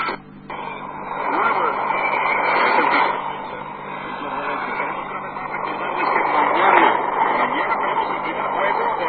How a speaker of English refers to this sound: That's a Spanish station. Okay, that's enough, I think. It's not... There's a lot of static there. Yeah, big time. I was getting way better reception last night.